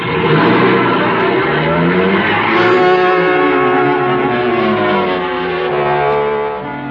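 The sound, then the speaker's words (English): A car with a running board drives off toward the scene of a fire, its engine revving and its steady drone shifting in pitch as it accelerates, fairly loud throughout with no voices. “Okay, climb on the running board. We'll drive down.”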